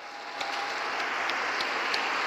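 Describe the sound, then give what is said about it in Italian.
A crowd of faithful at St. Peter's breaks into steady applause to greet all fathers, a dense wash of clapping from many hands that holds at an even level for a couple of seconds, with no voices standing out. “A tutti i papà salutiamo con un grande applauso.”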